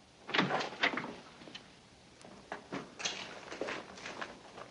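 Soft, irregular knocks on a door, several dull raps spread out with uneven pauses, fairly quiet, with no voices.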